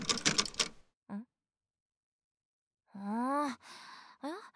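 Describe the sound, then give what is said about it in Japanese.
Rapid metallic rattling and clicking of a key being jiggled in a front-door lock that will not turn, brief, followed by a short pause and several strained, wordless vocal groans; the door turns out to be already unlocked. “なんで鍵が回らないんでしょうが。”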